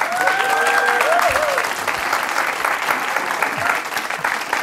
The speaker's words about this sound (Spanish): Yo quiero un aplauso para el …, mi respeto.